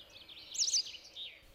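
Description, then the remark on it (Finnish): Quick, twittering bird song of a white wagtail, a short burst of high chirps and trills peaking in the middle, fairly faint against a quiet outdoor background with no voices. “Ja sen laulussa kuuluu myöskin siskon ääni.”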